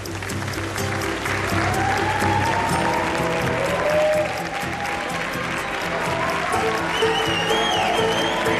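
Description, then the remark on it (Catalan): Steady, dense applause from a large theatre audience at the Teatro Real, many hands clapping continuously at an even level for several seconds, with faint whistles rising above the crowd. “Aquests aplaudiments no són de l'estudi de Beta Ràdio, són del Teatre Real, no estan tan emocionats aquí.”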